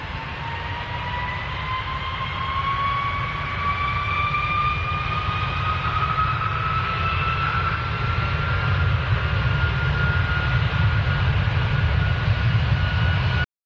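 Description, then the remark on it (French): A jet airplane takes off, roaring steadily while its engine whine climbs slowly in pitch, loud throughout, with a deep rumble underneath and no voices. “Il y a aussi les bruits trop forts, comme des alarmes ou un avion qui décolle, et les décibels peuvent aller de 106 à 120 décibels.”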